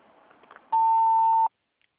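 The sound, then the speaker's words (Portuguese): A single telephone answering machine beep signalling the caller to leave a message and phone number: one steady, mid-pitched electronic tone lasting under a second, loud and clear after faint line hiss, then cutting off abruptly into silence. “Ao ouvir o sinal, deixe a sua mensagem e o seu número de telefone.”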